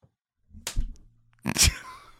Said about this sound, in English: I want you to slap the back of my hand with that intensity.